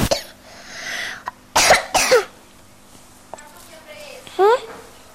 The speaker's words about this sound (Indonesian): Kok batuk-batuk? Kena asap mbak dia.